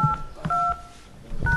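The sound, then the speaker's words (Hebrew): Three short telephone keypad DTMF tones, each a steady two-pitch beep, sounding in an uneven sequence with brief gaps and no voices. “נא הקישו את הסיפור”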